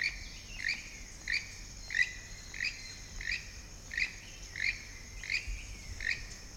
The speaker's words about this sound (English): And then all the insect noises. So while I was recording it, it kind of reminded me of Costa Rica.